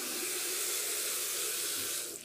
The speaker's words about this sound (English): So we're going to run a quick test. Here's the water in the bathroom, downstairs bathroom. I'll turn it on and off with my left hand.